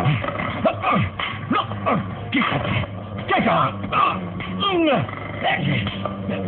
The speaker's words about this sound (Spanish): Calimán se enfrasca en violenta y mortal lucha contra la manada de lobos que lo atacan en los pantanos.